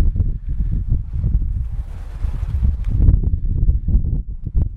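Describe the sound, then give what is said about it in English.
Sea water lapping against rocks below a coastal path around a bay, in uneven, low, rumbling surges that swell and fall continuously, mixed with gusty wind noise and a brief hissy wash midway; no voices. “if you were to walk right across the path, you would get to like a bit of a drop, and it drops down onto rocks and stuff, and you can hear the sea kind of lapping against the rocks.”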